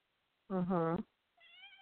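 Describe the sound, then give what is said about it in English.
A pet female cat that has come over meows loudly, a bending, drawn-out call, then gives a second quieter, higher-pitched meow that trails on after a short pause. “Say hi to my okay. cat.”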